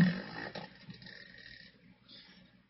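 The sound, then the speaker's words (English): A low, raspy, fart-like blast opens loudly and trails off into a sputtering, buzzy rumble that fades over about two seconds, with no talking. “That sounds like she, my son farting.”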